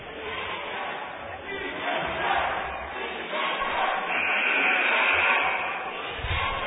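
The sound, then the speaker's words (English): A crowd at a girls' basketball game between Green City and Bashir roars and cheers wildly, a steady loud wash of shouting voices with a rising swell midway and high-pitched yells cutting through. “And the crowd is going wild at this very intense game right now.”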